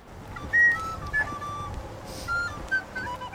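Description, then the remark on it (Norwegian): Faint, thin flute notes drift in the background, a few short tones rising and falling over a steady noisy ambience, with no voices. “Oi, jeg kjenner det en fløytespill.”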